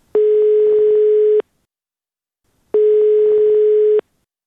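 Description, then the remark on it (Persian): A telephone ringback tone of an outgoing call placed by Radio Azadi to a person searching for a missing relative: two steady, loud electronic rings, each over a second long, separated by a pause of similar length, with no voices. “بنابراین ما هم کوشش کردیم که از طرف خود به کسانی که در جستجوی گم شده خود هستند تلفن کنیم و با ایشان صحبت بکنیم و صحبتشان را ثبت و نشر نماییم.”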